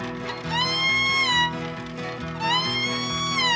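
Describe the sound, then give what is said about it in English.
A voice imitates a steer's bellow twice: two long, drawn-out lowing calls, each rising then holding steady, loud with a brief pause between them. “That was a steer.”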